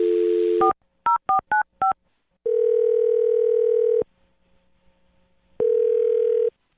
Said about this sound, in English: I think it is the perfect time to dial the phone number. So let's dial away.